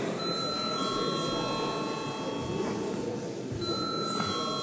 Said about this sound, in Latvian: Paldies, godātie kolēģi, pienācis laiks reģistrācijai, lūdzu zvanu.